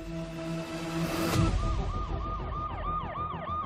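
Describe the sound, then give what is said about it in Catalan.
A police siren wails in repeated rising-and-falling sweeps over the low rumble of traffic, steady in loudness, with no voices present. “La policia.”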